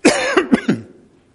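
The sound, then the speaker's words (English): A quick burst of about four harsh coughs in a rapid chain, loud at first and tapering off into a brief quiet tail. “But you see, my body isn't perfected yet because I got this cough from time to time.”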